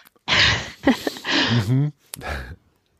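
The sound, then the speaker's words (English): A loud fit of harsh coughing and throat clearing from a person who is sick, several rough bursts over a few seconds, with a brief gap before a final hacking cough. “So, yeah, hopefully all our listeners will bear with us as we cough and hack and whatever else we have to do through this episode.”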